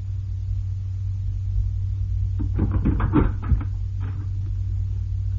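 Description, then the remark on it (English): A door is unlocked and opened: a short cluster of metallic clicks and rattles from the latch and handle, over a steady low rumbling hum, with no talking. “Ivanov, we break down the door. All right, I'm coming.”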